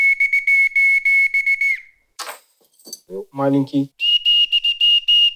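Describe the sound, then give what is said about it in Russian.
A shrill genuine naval boatswain's whistle, brought from the Northern Fleet, blows two long warbling blasts, the second slightly higher in pitch. Between them come a few clatters and a brief spoken voice. “Это настоящий боцманский свисток, который Владимир Иванович привез с Северного флота, где служил.”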